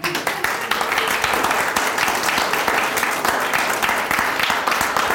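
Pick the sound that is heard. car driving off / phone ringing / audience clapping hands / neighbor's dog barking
audience clapping hands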